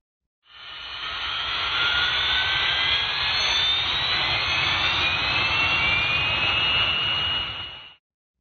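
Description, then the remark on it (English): An aircraft's jet engine is spun up for starting by airflow from the standby turbine-powered generator: a loud, steady roar, its high whine climbing gradually in pitch for several seconds before cutting off abruptly. No voices are heard. “This airflow is actually used to spin the jet engines for starting.”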